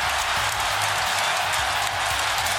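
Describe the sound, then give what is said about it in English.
A big baseball stadium crowd in Tokyo at a Dodgers–Cubs game cheers after a Shohei Ohtani hit, a steady, loud, unbroken roar for a few seconds, with a low rumbling hum underneath and no one speaking. “Call on Fox Sports 1 and listen to that crowd.”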